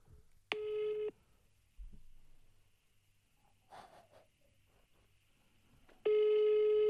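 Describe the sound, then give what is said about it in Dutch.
A telephone ringing tone as a number is called: two steady, mid-pitched buzzing tones about five seconds apart, with only a faint breath and low rustling in the quiet gap between them. “Ja, we kunnen weer even dat nummer gaan bellen,”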